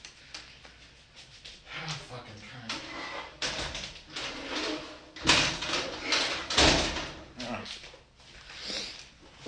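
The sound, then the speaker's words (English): A closet door is shut, with rustling and a sliding rumble building to two loud, broad thumps as it closes, then some lighter handling noise afterward. “Oh, my closet door's open.”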